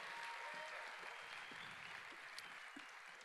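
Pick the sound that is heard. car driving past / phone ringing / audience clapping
audience clapping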